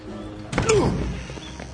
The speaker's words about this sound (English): Bust the door, Pike.